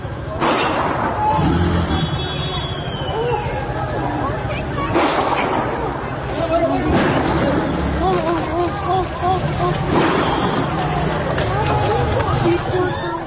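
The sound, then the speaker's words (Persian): Several sharp, loud gunshots ring out at irregular intervals, about four in all, over a constant murmur of a crowd shouting and talking in an open street near a protest scene, where one person falls after the shooting. “به نظر می‌رسد اینجا مردم چندان به صحنه اعتراض نزدیک نیستند، ولی بر اصل شلیک گلوله یک نفر زمین می‌افتد.”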